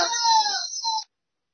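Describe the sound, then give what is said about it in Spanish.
A dog whimpers once, a thin, high-pitched whine lasting about a second before cutting off abruptly, clear with no voices around it. “¡Perro!”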